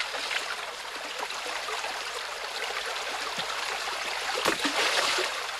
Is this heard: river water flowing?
yes